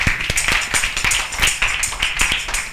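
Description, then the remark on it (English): A crowd claps steadily together for the November group, sharp overlapping hand claps at a brisk, fairly even pace with no voices over them. “We thank God for clap for November.”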